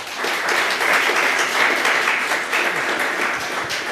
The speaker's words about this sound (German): Einen wunderbaren Applaus für diese zwei wunderbaren Menschen.